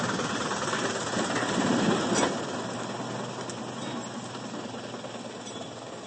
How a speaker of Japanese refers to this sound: この橋やだな。この橋ちょっと怖い。そんなに小型トラックが通っただけで揺れました。